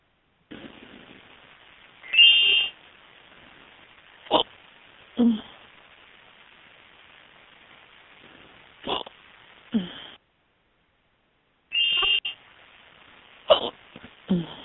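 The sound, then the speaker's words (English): Two short, bright electronic instant message notification chimes, several seconds apart, sound over a faint background hiss. Scattered sharp, brief thumps and catches of a person's hiccups occur between them. “Can you hear everybody IMing me?”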